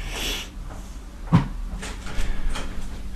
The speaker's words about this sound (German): Tür auch noch zu, macht sie auch noch zu.